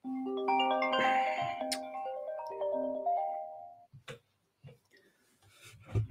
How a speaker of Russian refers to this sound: Катя же знает, что у меня эфир и звонит.